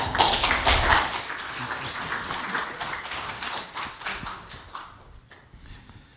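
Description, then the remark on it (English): A church audience applauding as a pastor goes up to the pulpit, a dense crackle of many hands clapping at once, loudest at the start, then gradually thinning and fading out near the end, with no talking. “I don't think I've ever been clapped into the pulpit before.”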